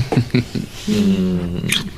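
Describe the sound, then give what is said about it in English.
A dog named Albert whimpers in a few short, rising yelps, then lets out a drawn-out, steady moaning howl, fading at the end. “Don't moan like that. Try to be a brave doggy.”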